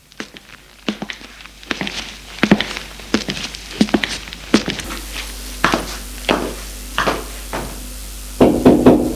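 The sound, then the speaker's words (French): Knocking on the door of a brother's bedroom: a run of sharp, dull raps in uneven groups, moderately loud, with a short pause between bursts and no voices. “Il va frapper à la porte de sa chambre.”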